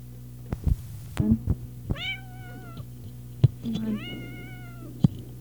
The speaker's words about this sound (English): Come on. Mad cat. Yell at him. Tell him you want to go outside and we won't let you out. You're really mad about that, aren't you?